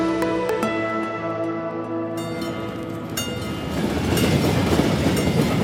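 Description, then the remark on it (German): A train rolls past a level crossing on Via del Rafut, wheels clacking in a steady rhythm while a sustained tonal ringing fades out and the rumble swells louder toward the end. “Der Bahnübergang wird ganz normal. Immer wieder fährt ein Zug vorbei.”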